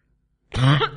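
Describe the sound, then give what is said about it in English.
A single, fairly loud cough from a speaker giving a talk bursts out after a moment of silence, rough and slightly throaty as it trails off. “I haven't done bad, only one cough so far.”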